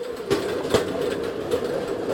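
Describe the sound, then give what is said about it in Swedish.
A steady mechanical rumble of the wheels of a rail trolley (draisine) rolling along the old Simrishamn railway line through the valley at Rombelåsen, between Björnstorp and Veberöd in Sweden, with a couple of sharp clacks as the wheels cross rail joints, continuous with no voices. “Det som hörs här är slamret från vagnshjul på dressinen vi sitter på just nu när vi far igenom dalgången vid Rombelåsen.”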